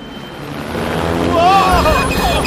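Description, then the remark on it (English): Two helicopters approaching: a low, steady mechanical rumble swells louder over a couple of seconds, with some higher wavering tones rising over it toward the end. “I found two choppers. That cannot be good.”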